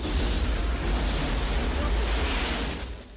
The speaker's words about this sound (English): Meekum, Rubric and Sloan narrowly escape the roaring pillars of fire as the ship takes off and powers overhead, kicking up clouds of dust.